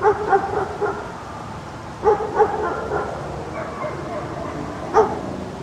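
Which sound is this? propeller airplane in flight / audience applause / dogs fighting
dogs fighting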